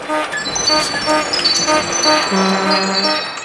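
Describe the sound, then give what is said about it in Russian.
A dense, continuous clatter of ringing bells and jingling metal from frying pans, oven dampers, bells and jingle bells hung on a pole bent into an arc and strung with sinew, its strings pulled; many overlapping tones and sharp strikes layered together, loud throughout. “Сковороды, заслонки, колокола, ширкунцы, бубенчики. Как дернет за струны, батюшки мои!”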